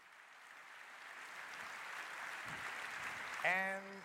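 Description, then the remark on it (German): A steady patter of audience applause during a presentation, a soft, even wash of clapping that builds slightly over several seconds, then a voice starts speaking as it fades. “Applaus.”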